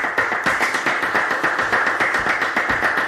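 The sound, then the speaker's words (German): Steady applause from a Spanish audience, a dense crackle of many hands clapping at once, holding an even loudness throughout with no voices on top. “Und haben spanisches Applaus dabei.”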